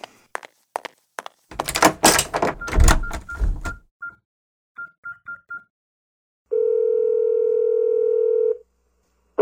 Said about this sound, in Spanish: Cuando salga, cierra la puerta.